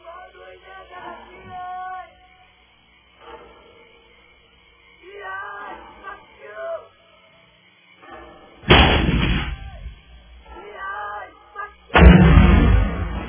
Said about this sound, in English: There's the explosion. All quiet.